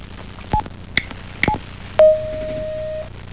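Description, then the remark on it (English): Three short telephone keypad beeps sound about half a second apart, followed by a steady one-second electronic tone as a caller's phone line connects to a live call-in line, clear with no talking. “Somebody's calling in to ask a question about Caltrans.”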